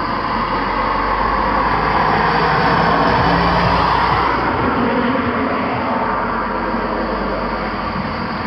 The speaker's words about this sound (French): Ah, il y a une autre voiture qui arrive. Vous devez l'entendre normalement. Elle va passer juste devant.